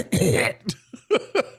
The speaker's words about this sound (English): Yeah, actually, you know what? Now that we can actually play, gotta get that COVID cough on right before the break.